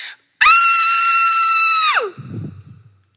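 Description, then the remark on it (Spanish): A loud, sustained angry scream from a female, held at a steady pitch for about a second and a half, then dropping off sharply into a low, rumbling breathy tail. “¿Ya terminaste? Dicen que gritar es saludable.”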